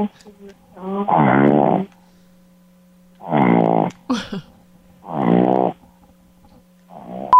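A dog named Moonshine Man snores in three loud, buzzy, drawn-out breaths spaced about two seconds apart, each rattling with a throaty tone, over a steady low hum.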